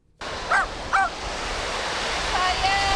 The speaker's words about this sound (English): This beach in the town of Wilson, just south of Sheboygan, is a popular place for locals to walk dogs and enjoy the water.